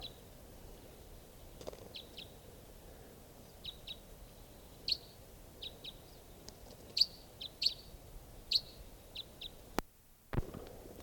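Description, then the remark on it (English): A bird, a type 5, gives a series of short, repeated chirps at an irregular pace, some louder than others, over a quiet outdoor background with no talking. “Here's another type 5.”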